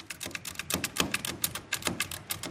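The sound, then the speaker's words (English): Rapid mechanical key strikes clatter in an uneven rhythm, a dozen or so sharp metallic clacks from a metal, non-electric Braille writer, like a small manual typewriter, being typed on, with no voices. “It's like a small version of an old-fashioned manual typewriter.”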